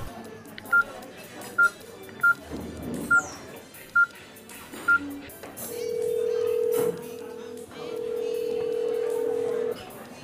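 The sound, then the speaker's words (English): A phone number is keyed in with a quick series of short, evenly spaced dial beeps, followed by long steady ringback tones as the call rings out, fairly loud. “It's ringing out.”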